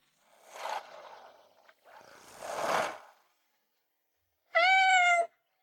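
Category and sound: animal, kitten meowing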